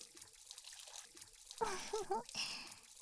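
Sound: shower water running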